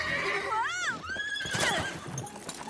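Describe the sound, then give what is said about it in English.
Hilarion's brown horse whinnies loudly as someone climbs onto it, a rising, wavering neigh that trails off, with faint rustling and shuffling hoof sounds underneath. “She climbs up onto Hilarion's brown horse.”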